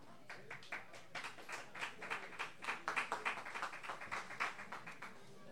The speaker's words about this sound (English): Please have a nice round of applause